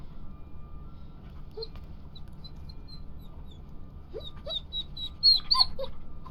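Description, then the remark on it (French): A dog whimpers and yelps in short, high-pitched bursts, scattered at first and then crowding together into a louder flurry near the end, over a steady low background rumble. No one speaks. “T'as vraiment aucune autorité sur ce chien, c'est pathétique.”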